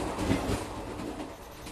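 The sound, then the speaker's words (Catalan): A passenger train travelling from Xining, Qinghai province, China, to Golmud rumbles steadily along the rails at under 100 km per hour, a continuous low clatter, with no voices over it. “Des de Xining, capital de la província xinesa de Qinghai, el tren tardarà més de 13 hores en arribar a la seva destinació final, Golmud, una ciutat fantasma propera a la frontera en el Tíbet.”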